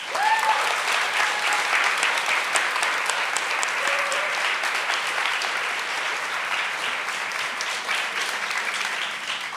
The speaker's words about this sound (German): Ja, also herzlich willkommen und einen Applaus für unser Panel.